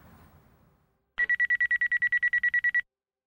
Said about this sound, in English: It was 3 a.m. when their phone broke the silence, followed by a knock at the door and the rotating amber light of an emergency vehicle raking their dark living room wall.